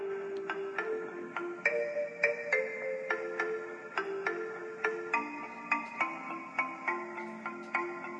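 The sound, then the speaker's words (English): A tinny music track plays through a small phone speaker, with bright plucked notes in a steady, repeating rhythm and a thin, bass-light tone, heard on its own without talking. “if Andy can pull it up on his phone, he can play. Yeah, a little cell phone taste of it right here”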